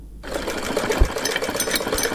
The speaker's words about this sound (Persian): در گزارش از همکار مهناز نوری مشنوین که با صدای ماشین خیاطی دختر جوان آغاز میشه که به حد نگرانی دارد.